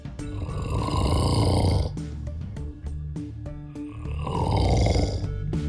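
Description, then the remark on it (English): A woman's husband snores loudly in his sleep, two long rattling, throaty snores about two seconds apart, separated by a short stretch of clicking, uneven breath noise. No one talks. “she actually sent us a recording of her husband.”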